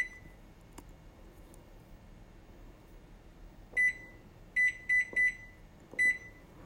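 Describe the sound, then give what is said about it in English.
A microwave timer being set for 20 minutes while rice simmers on the stove: five short, high electronic button beeps at an uneven, pressing pace, clear over a quiet background hum, with a faint click before them. “And then I'm going to set the timer on my microwave for 20 minutes and let it simmer for 20 minutes.”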